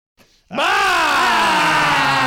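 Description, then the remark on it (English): A person lets out a loud, sustained growl after a faint breath, the gravelly voice rising briefly in pitch and then slowly sagging lower as it holds. “She growled and said good afternoon.”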